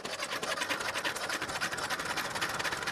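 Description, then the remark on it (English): A diesel engine, fitted with an all-new cooling unit, starts and chugs steadily, its rapid, even clatter loud and unbroken throughout, with no voices over it. “The diesel engine has started and the all-new cooling unit is fixed in place.”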